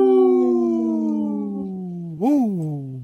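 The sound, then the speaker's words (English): A long, loud wolf howl that slowly slides downward in pitch, then swoops up briefly and falls away again, rich and steady with no talking. “This portion of the show is supported by Howling for Wolves, protecting wolves for future generations. Howl! Howl!”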